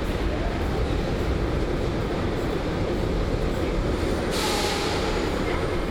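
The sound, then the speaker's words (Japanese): A subway train rumbles into a station with a steady, loud low-frequency roar and rushing air, then a brighter hiss of brakes or wind rises near the end. No one speaks. “これ来たのかな、もしかしてこの風の具合は。”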